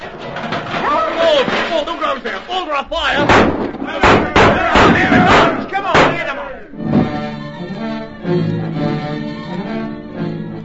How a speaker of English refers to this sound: It was one of the Barbary apes. He was hunting for food. Suddenly, in an overzealous effort to reach a pot of beans, the ape knocked over the pot.